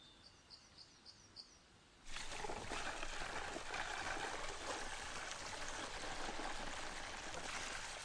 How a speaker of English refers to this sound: The amount of cement required is extraordinary. For 3 days they kept pouring, until 10 tons of cement had disappeared down the tubes.